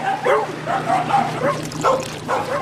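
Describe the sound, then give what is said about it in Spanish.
A dog barks repeatedly in a steady rhythm, about five or six yappy barks, with a faint low hum running underneath. “Necesita más perro.”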